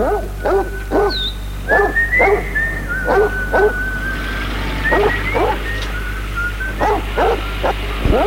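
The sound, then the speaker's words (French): Dogs searching for food in rubbish in the dark, dirty streets of a bombed city bark in short repeated bursts, with high thin whines and whimpers drawn out between them, over a steady low hum; clear, no talking. “C'est des bruits de chats, de chiens, ou même de rats qui cherchent de la nourriture dans les détritus.”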